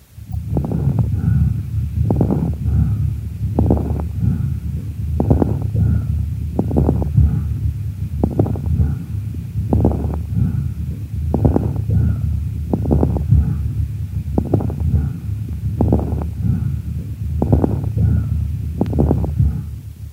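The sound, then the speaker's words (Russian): Bronchial breath sounds heard through a stethoscope: a steady run of about fourteen harsh, hollow breathing cycles in a regular rhythm over a low muffled rumble, with no talking. “А также с характеристиками бронхиального дыхания.”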